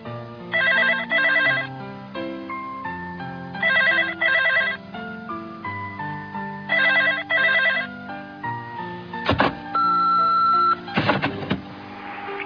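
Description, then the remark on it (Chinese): A telephone rings three times with a steady double-ring pattern, clear, followed by a couple of sharp clicks and a short electronic tone, as a caller rings someone at home. No one speaks. “如果你仲喺屋企咧，就接电话啦。”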